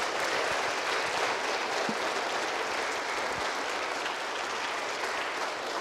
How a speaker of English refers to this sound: If you've been blessed today, would you just say thank you with a little applause to our guest speaker?